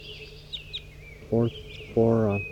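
Faint, brief high-pitched chirps from a group of gray birds scattered over a steady background hum, with two louder, lower voice-like sounds breaking in partway through.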